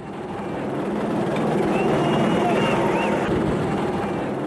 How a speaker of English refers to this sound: As police helicopters hover over the city